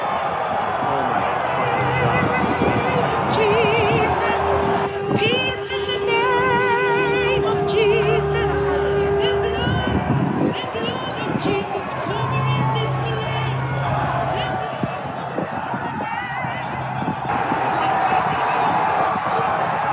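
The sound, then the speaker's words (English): A large, agitated crowd breaks through a line of police officers, recorded on a cell phone: a continuous roar of shouting and yelling, scattered whoops, and sustained horn-like tones cutting through the commotion throughout. “And then I think it was after 5-10 minutes that we were there, the crowd actually like broke through. This is a video that I took with my cell phone.”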